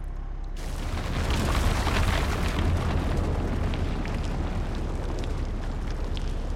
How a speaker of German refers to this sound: Die Mäuse sahen sich an und Herr Wundersam wollte gerade erklären, was es mit seinen Mitreißenden auf sich hatte, als ein dumpfes Brummen die Höhle erschütterte.